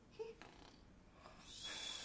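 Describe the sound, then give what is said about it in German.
A voice imitates a toy figure snoring during play, with soft, breathy snorts and a longer hissing exhale toward the end, quiet, with no talking. “Jetzt schnarcht er.”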